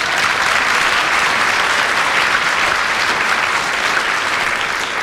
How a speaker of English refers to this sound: Peter's got a friend in the audience. They clap.